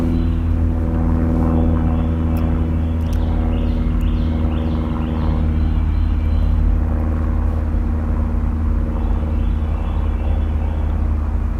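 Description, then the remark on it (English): A steady, droning engine rumble from an airplane flying overhead above a forest under a sunny blue sky fills the air throughout, deep and continuous, with a few faint bird chirps briefly in the background. “In a forest, and a plane's going overhead right now.”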